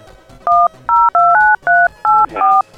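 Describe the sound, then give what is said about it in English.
A run of seven loud telephone touch tones being dialed, each a short steady two-pitch beep, with slightly uneven gaps between presses and no talking. “All right, I'm going to hit a bunch of touch tones.”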